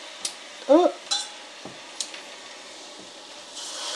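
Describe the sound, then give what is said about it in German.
Pickles sizzle while frying in a pan with a steady, quiet hiss, broken by a few sharp clicks and scrapes of utensils and one brief squeak, growing slightly louder toward the end. “Das Geräusch, das lieben wir doch. Du, es zischt, es brutzelt.”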